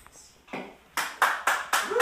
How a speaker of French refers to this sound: Ça, c'est la foule. Si t'as entendu des gens qui riaient au début, c'est pas moi qui ai rajouté ça, c'est pas de ma faute.